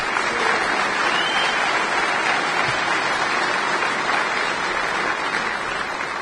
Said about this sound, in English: And again, please give yourselves a round of applause for putting on such a great con.